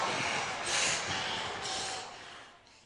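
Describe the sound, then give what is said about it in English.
Heavy, breathy panting blasts straight into a microphone in a few rough, noisy gusts, loud and hissy at first and tapering off toward the end, with no talking. “I like the panting at the end, as if a dog had gotten a hold of a mic.”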